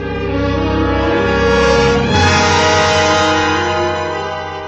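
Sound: train with horn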